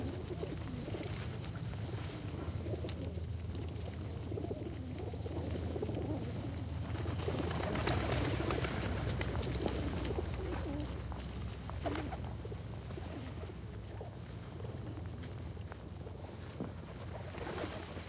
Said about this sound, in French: Mais peut-être, les yeux tout à coup très bleus, peut-être que moi, j'avais du riz pour les pigeons. Ces pigeons.